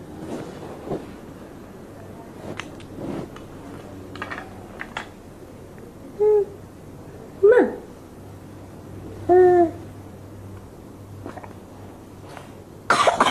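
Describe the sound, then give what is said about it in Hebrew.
A few harsh coughs burst out one after another at uneven intervals, fairly loud, over a steady low background rumble with no talking. “איזה שיעול.”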